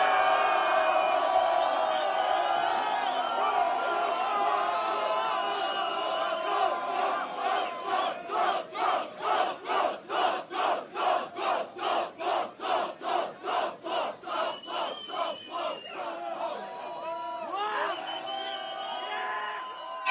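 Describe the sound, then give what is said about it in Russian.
A loud crowd at a rap battle roars and cheers as its vote for Top Flow, then breaks into rhythmic chanting with about twenty evenly spaced shouts, before dissolving back into scattered whoops and yelling; a sound level meter reads 118.3 dB. “Голос толпы уходит, Top Flow, 118.3 дБ.”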